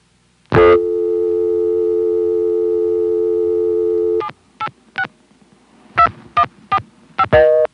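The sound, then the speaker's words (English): A telephone dial tone from the central office equipment hums steadily for a few seconds, then cuts off as a quick series of short touch-tone dialing beeps follows in two clusters, dialing the number of the phone being called from, clear, with no talking. “sitting on the lockout relay, all I have to do is flash, and I'll go back to the CO equipment, which will give me a dial tone. When I dialed the number of the phone I was calling from, I didn't get anything fancy like a ringback, just a normal busy.”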